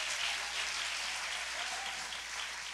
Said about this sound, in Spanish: O denle un aplauso a Dios. Come on, somebody.